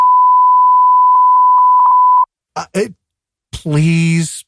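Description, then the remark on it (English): A loud, steady censor bleep tone holds for about two seconds, faint syllables poking through beneath it, then cuts off before a few spoken words follow. “Please beep that.”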